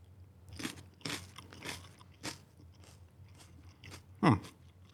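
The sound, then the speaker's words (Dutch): Crisp crunching as someone takes a big bite of a raw yellow pepper, followed by several wet chewing bursts spaced irregularly, with one sharper crunch near the end; no talking. “Ik heb geen idee hoe pittig deze is, maar ik ga er een flinke hap van nemen.”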